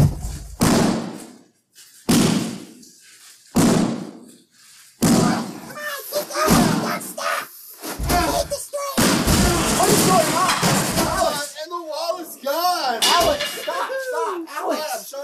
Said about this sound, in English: you knocked down the whole wall.